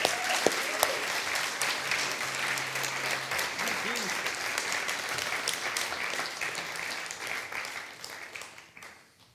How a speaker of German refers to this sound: lasst sie begrüßen mit einem herzlichen Applaus.